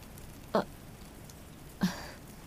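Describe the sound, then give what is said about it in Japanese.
Soft, steady rain from a sudden shower hisses in the background, broken by two brief, sharper splashes about a second apart. No one speaks. “急に降ってくるんだものね。コンビニに寄ってみたけれど、どこも傘は売り切れ。”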